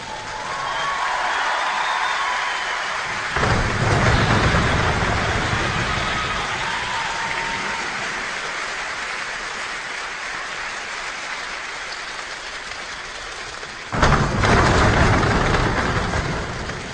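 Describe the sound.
A choir imitates a rainstorm with a dense, steady patter of snaps and claps, broken by two sudden booming surges of stomping that mimic thunder, loud throughout.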